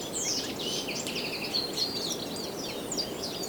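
Several birds chirp and warble continuously in trees along a mountain path in the Pyrenees over a steady rushing, windy breeze, their quick high calls overlapping with no voices present.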